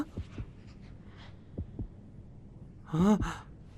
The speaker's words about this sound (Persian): طوریش نمیشه. اگه هنوز ضربان قلب داره، دوباره به زندگی بر میگرده.